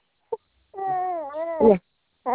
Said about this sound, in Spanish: Es que estoy durmiendo la guagua y se está llorando.